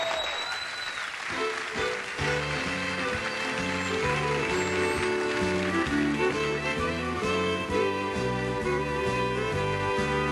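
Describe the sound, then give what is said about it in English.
Audience applause for a singer being introduced, a dense wash of clapping, rises at the start and keeps going as a band kicks in with a steady bass rhythm, the clapping soon buried under the music. “Ladies and gentlemen, a nice round of applause”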